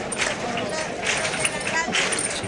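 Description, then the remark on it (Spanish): A bullfight crowd, supporters from Huelva, claps rhythmically in a steady, even beat to warm up, the sharp claps blending into a dense wash of crowd noise and murmuring voices. “Sí, de hecho, ahí estamos escuchando las palmas para, como digamos, para calentar,”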